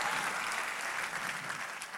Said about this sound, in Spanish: Si ese es el aplauso, dése lo mejor al Señor.